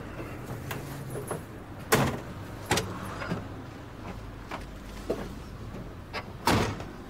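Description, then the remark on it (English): A car door clicks open and thuds shut, with several sharp latch knocks and bumps spread over a few seconds against a low, steady background hum. No one speaks. “Get in the car, please.”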